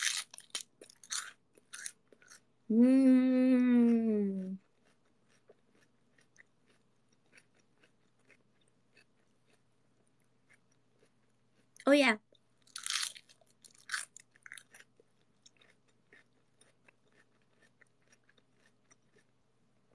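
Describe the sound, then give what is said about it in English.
Crisp crunching as someone chews big pieces of crunchy lettuce in short bursts, pausing while a voice briefly speaks, then resuming with a few more crunchy bites. “I love these big pieces of crunchy lettuce.”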